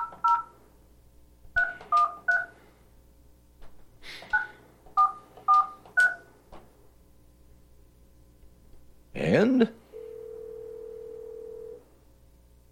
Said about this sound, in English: I can get a dial tone to dial out.